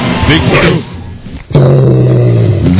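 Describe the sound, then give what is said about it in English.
A large dog, a Great Dane at Burt Ward's dog shelter, lets out a loud bark, falls briefly quiet, then breaks into a deep, sustained growl that carries on steadily to the end. “Great Danes. Big dogs.”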